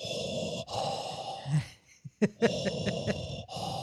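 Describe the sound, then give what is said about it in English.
A person imitates Darth Vader's heavy, rasping respirator-mask breathing: long hissing inhales and exhales in a slow rhythm, broken by a brief pause and a few small gasps. “Would you rather unintentionally talk like Yoda or breathe like Darth Vader?”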